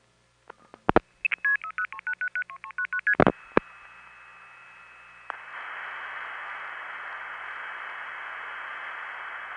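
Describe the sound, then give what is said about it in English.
A quick run of telephone touch-tone dialing beeps for a call to Calgary routed through a step tandem, about a dozen stepped tones in rapid succession with a few clicks, followed by a steady hissy line tone with static that continues to the end. “And again, when you hear the final tadutta, or tadudutta, of Calgary, the connection will already have been made through the step tandem because of the way you dial through it, and the number will be ringing, or busy, or going to intercept.”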